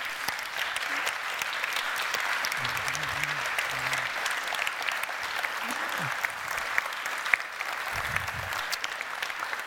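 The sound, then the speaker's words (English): A crowd applauds the leaders and kitchen crew steadily for the whole stretch, a dense, even wash of many hands clapping at once, with a few faint voices calling out underneath. “Like, I want to give our leaders, if you guys would just stand up, and our kitchen crew, I would love to give you guys a round of applause and some praise.”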